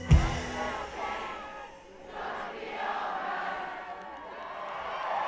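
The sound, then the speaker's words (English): An audience sings along loudly at a performer's urging, many voices blending into a thick, sustained wash of sound that swells and dips slightly over a few seconds, with a sharp thump right at the start. “One more time so they can hear us from space.”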